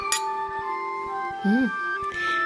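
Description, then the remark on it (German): Glasses of Spätburgunder wine clink together once as men make a toast, bright, leaving a clear ringing tone that lingers for a couple of seconds while a voice briefly murmurs underneath. “Das hat gesessen. Prost, Männer. Prost. Prost.”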